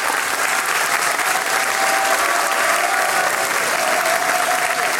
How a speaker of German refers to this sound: Sie nickt und stimmt mir voll und ganz zu und bekommt jetzt einmal einen großen Applaus, nämlich die Chorleiterin des Veitstallgesangs,